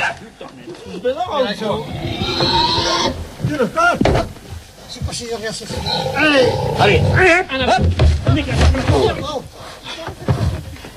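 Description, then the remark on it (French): A pig weighing about 180-190 kilos squeals loudly and repeatedly in harsh, wavering bursts that continue almost without pause, while several people talk over the noise. Snow lies all around, about five or six men surround the pig, and a bucket is placed under its head. “Sous la tête du cochon.”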